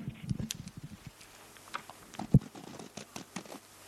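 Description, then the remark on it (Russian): Soft, irregular scratching of a pencil as someone draws on a sheet of paper, quiet, with brief strokes and taps scattered over a few seconds and one sharper knock partway through. “А вот я сейчас возьму листок бумаги, на нем немножко порисую.”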